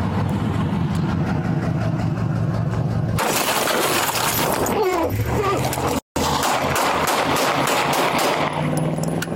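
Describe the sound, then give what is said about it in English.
A rapid series of loud, sharp gunshots cracking out in quick bursts over a low engine rumble, with brief pauses between volleys, fired during a police traffic stop in the 1500 block of Greenbrier Drive. “Shots fired!”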